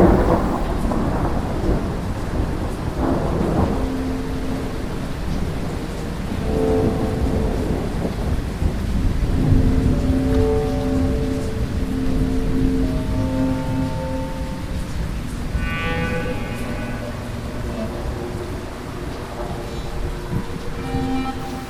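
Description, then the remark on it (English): A thunderstorm about 16 kilometres away: steady, hissing rain with low, rolling thunder rumbling continuously in the background, fairly loud throughout, with a few faint tonal notes drifting over the downpour. “That means the storm's 16 kilometers away.”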